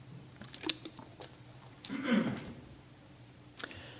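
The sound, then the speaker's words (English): Someone takes a sip of water: scattered small wet mouth clicks, then a louder gulp and swallow midway, followed by faint smacking, with no talking. “Let's get a little water.”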